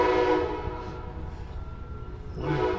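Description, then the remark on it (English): The horn of a passing train blares in two long, steady blasts with a lull between, its harmonic tones sounding over the low rumble of the train. “Train time. It's going to do it again.”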